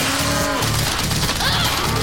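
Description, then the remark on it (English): Several deep, drawn-out cow moos from the killer cows from the future in Robot Chicken repeat back to back, loud, layered over a dense, noisy rumble with crashing clatter mixed in. “On the season premiere of Robot Chicken, killer cows from the future.”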